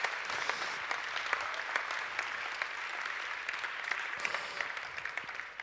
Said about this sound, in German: Ja, vielleicht sowieso ein Applaus für die wunderbare Techniker in unserer Gemeinde. Ja, danke für euch.